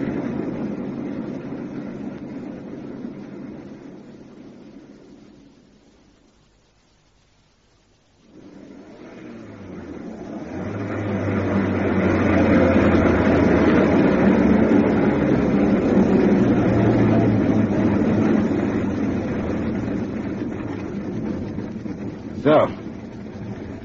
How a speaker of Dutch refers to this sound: zou de motor maar afzetten